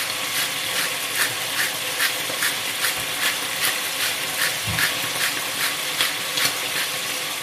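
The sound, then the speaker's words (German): About a quarter litre of water poured into a hot pan of roulades that have been browned on both sides, with an onion added, on a stove at full heat, sets off a loud, steady sizzling hiss, dotted with quick sputtering crackles and pops throughout, with no one speaking. “Und ungefähr ein Viertel Liter Wasser.”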